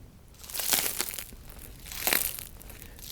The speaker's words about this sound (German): Ja, wenn ich jetzt einfach auf das Brot drücke und das Brot ist schon mehrere Stunden alt, dann würde das jetzt noch knuspern. Ich weiß nicht, ob man das nachher hört, aber...